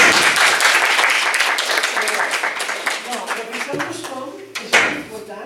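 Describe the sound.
A crowd applauds with dense, steady clapping, then thins out as a voice begins speaking over the fading claps near the end.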